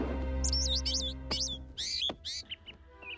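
A small bird chirps in a quick series of bright, warbling tweets, with a low steady hum underneath at first that drops away, leaving the chirps clearer.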